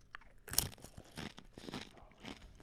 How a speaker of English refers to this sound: This is before I've heated it. So I'm knuckle deep right now in this bowl of buffalo chicken dip. I'm going to try it. So let's see. You're definitely going to get the crunch of the chip right now. So let's see how I did.